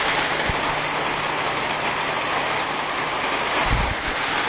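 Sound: heavy rain falling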